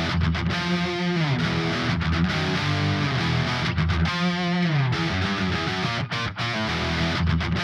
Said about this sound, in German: Als erstes hören wir mal kurz rein hier solo in unsere beiden Telecasters, die wir jetzt als Basis mal für den Trick nehmen. Und ja, das ist die Basis für unseren Kreuzhalttrick.